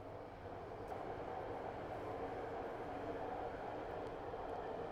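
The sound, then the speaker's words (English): A BART rapid transit commuter train runs with a steady, continuous rumble and hiss, constant throughout, with no voices. “The BART train sounds different today.”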